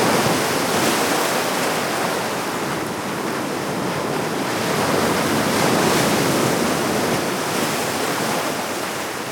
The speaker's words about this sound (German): Wer noch nicht in München war, sondern hier mit uns gerade zum ersten Mal herumläuft, der hat sich vielleicht gerade am Ende so ein bisschen gewundert über dieses Brandungsgeräusch da im Hintergrund. Aber nein, wir haben uns nicht vertan.